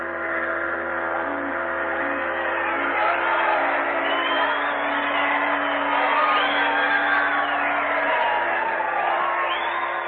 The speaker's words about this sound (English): There was shouting and rejoicing. There was singing and laughter.